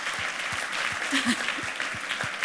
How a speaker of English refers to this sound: You probably shouldn't be applauding that, guys. That's not healthy.